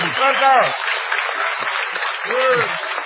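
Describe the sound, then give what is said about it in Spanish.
An audience at the Sala Galileo in Madrid claps steadily and densely for about three seconds in an ovation for Patricio Barton, with a couple of brief vocal whoops or cheers rising above the applause near the start and end. “Presento ya y les convido a una ovación, incluso inadecuada, para Patricio Barton.”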